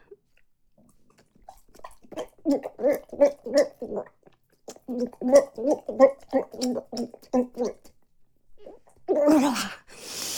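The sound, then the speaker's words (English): Wet gagging and gulping sounds during oral sex come in a steady rhythmic series of short throaty bursts, pausing briefly midway before resuming, followed by a louder breathy burst at the end. “Oh, I love swallowing you whole like this.”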